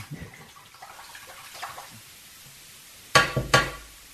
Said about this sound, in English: I tapped the shaver on the wall of the shower and hair just kept coming out.